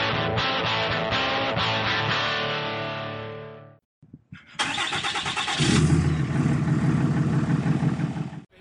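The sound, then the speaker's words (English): A bus engine drones steadily while driving from Seinäjoki to Vaasa, cuts out briefly partway through, then returns with a deeper, heavier rumble that stays loud to the end. “on the bus heading from Seinäjoki to Vaasa.”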